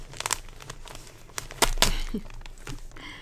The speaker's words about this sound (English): I'm just going really carefully because I don't want to tear the paper.